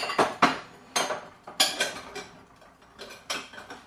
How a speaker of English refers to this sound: I was actually doing some dishes before I started this and forgot to put the bowl away. So let's do that now.